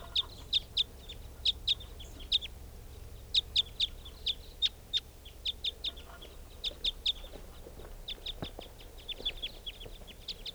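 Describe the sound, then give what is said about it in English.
Two type 5 birds returning to lodgepole pine trees give rapid, sharp chip calls in quick pairs and clusters, repeated steadily throughout, fairly clear over a low outdoor rumble with no talking. “Recording, the type 5 birds have come back.”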